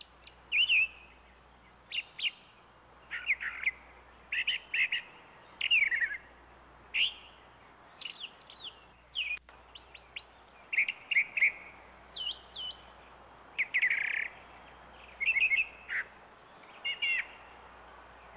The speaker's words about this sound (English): The brown thrasher is a cousin of the mockingbird.